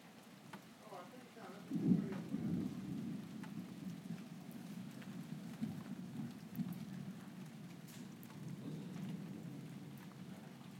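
A low, rolling rumble of thunder from lightning swells early on and keeps growling through steady rain, continuous rather than sharp, with no voices present.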